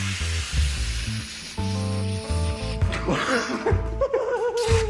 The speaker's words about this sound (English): They inhale from whipped cream containers.